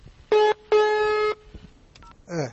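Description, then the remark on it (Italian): Two loud touch-tone dialing beeps as a doctor's phone number is dialed, a short one and then a longer held tone, followed by a faint blip and a brief warbling electronic chirp. No voices. “Ma ora dobbiamo ovviamente farci il nostro sondazzo, telefonare a qualcuno.”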